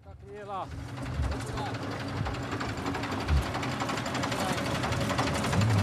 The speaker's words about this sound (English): A truck has just pulled over.